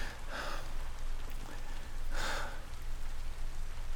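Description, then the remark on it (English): Heavy storm rain pours down in a steady, dense hiss with a low rumble underneath, broken by two brief breathy bursts; no one speaks. “Why do you hate storms so much?”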